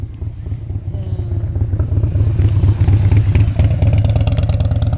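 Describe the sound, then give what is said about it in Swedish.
A large motorcycle rumbles past, its deep engine growl swelling louder midway and staying strong with a rattling, revving texture before easing slightly at the end. “Nu kommer det en stor motorcykel här.”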